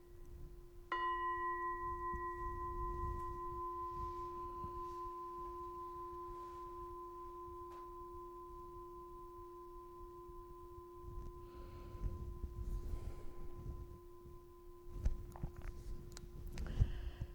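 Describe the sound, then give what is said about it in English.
A single struck bell is rung for a moment of acknowledgement after a talk, ringing out with a clear, steady tone, its low hum lingering for over fifteen seconds as the higher overtones fade, with faint rustling and shuffling underneath toward the end. “I'm going to ring the bell just for a moment of acknowledgement.”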